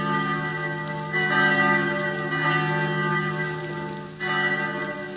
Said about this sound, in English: And everywhere, by the ringing of bells.